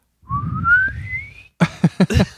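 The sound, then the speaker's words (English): A person imitates the whistling fart of a baby relieved with a little whistle put in its bottom: a thin, steadily rising whistle lasting over a second over a low rumble, followed by several short, punchy vocal bursts. “It sounds like a penny whistle. Like the pitch goes up as the, yeah. As the fart continues.”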